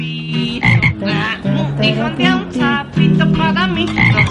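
A loud, dense chorus of frogs croaking, many overlapping calls pulsing and trilling continuously, with buzzy low croaks under higher chirping voices and no talking.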